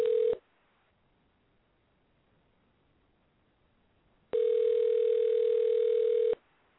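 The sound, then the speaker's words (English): A steady, mid-pitched telephone tone over the line as a call is placed again to someone in Kansas: a brief fragment, a long silent pause, then a second tone lasting about two seconds before cutting off. No one speaks. “She's in Kansas right now, and I'm having trouble keeping her on the phone, so I'm going to call her again.”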